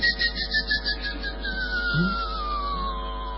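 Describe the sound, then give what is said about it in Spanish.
A person imitates the whistles used to herd giant snails: a quick series of rapid pulsing trills, then one long whistle that glides steadily downward in pitch, moderately loud. “Con silbidos. Dice que los conducen.”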